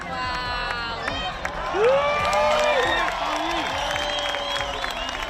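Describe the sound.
A crowd at Cala Blanca, Menorca, breaks into a spontaneous ovation during a solar eclipse, with many overlapping voices whooping and shouting in rising pitches over steady clapping, sustained and loud throughout.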